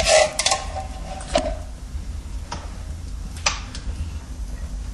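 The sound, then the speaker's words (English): A can of thick coconut milk is emptied into a pot, with a few sharp metallic clinks and taps of the can against the rim over a low kitchen hum, with no talking. “So you empty the can into it.”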